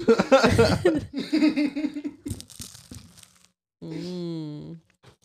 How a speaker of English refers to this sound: Well, you know what? I'll bite the bread.